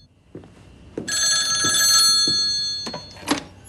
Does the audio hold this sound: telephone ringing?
yes